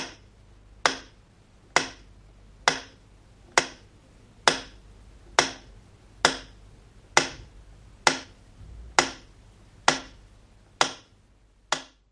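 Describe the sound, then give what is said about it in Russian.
The Leningrad metronome, broadcast on radio during the siege of Leningrad, ticks slowly and steadily, about fourteen sharp, bright clicks spaced a little under a second apart, sounding alone over a faint low hum. “Ну и давайте сейчас в память о суровых блокадных днях выведем в эфир звук ленинградского метронома.”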